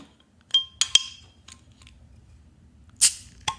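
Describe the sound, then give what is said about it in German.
A Steamworks beer bottle with a crown cap being opened: a few bright glassy clinks and taps with a short ringing tone, then a sharp hissing pop as the cap comes off, followed by a last small click. “Ich fand, es war ein eleganter Ton. Ja, und auch fresh nach Sommer sich anhörend.”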